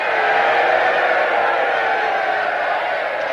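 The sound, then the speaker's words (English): A large crowd outside castle gates at night, waving their hands and hats, cheers and shouts in a steady, dense roar that stays loud and unbroken throughout, with many voices blending together and no single speaker standing out. “A crowd waves their hands and hats outside the castle gates.”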